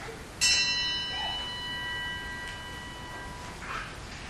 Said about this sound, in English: Thanks for all believers who died and gone to be with the Lord, members of our congregation and families, and also those who've been martyred for the Christian faith all around the world. We toll the bells in their remembrance.